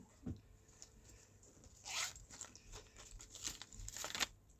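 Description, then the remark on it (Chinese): A marker pen is picked up and handled, with a soft thump followed by several short, scratchy squeaks of writing strokes at an irregular pace as words are written out for an audience during a talk, with no talking. “我写给大家不好意思，我去拿一下笔。”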